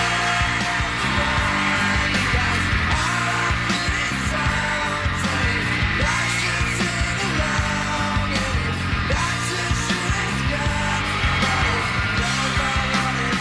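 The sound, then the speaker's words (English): A loud, dense rock recording with heavily distorted guitars and drums, the crowd's screams and cheers blending into a constant roar that never lets up; it is the audio of a music video, not a live recording. “It sounds like a live version with all the screaming.”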